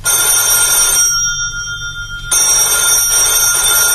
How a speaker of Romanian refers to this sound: răspunde la telefon. Dacă e tot domnul Hagi Iordan, nu sunt acasă.